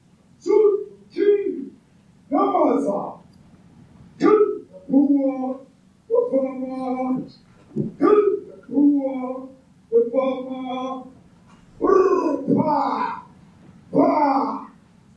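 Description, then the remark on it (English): People at a South African political gathering, watched by the South African president, vocally imitate gunfire with about a dozen loud, punchy, barking bursts from their voices, coming in an uneven rhythm with brief gaps between them. “Those sounds that you're hearing are that those people trying to replicate the sounds of gunfire, essentially.”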